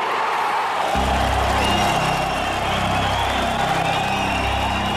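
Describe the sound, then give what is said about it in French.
A large crowd of East German refugees at the West German embassy in Prague erupts in loud, sustained cheering and shouting after being told their exit from East Germany was granted, a dense wall of voices with whoops rising above it, continuing steadily without pause. “Des cris de joie, des rires, des pleurs, c'est la libération.”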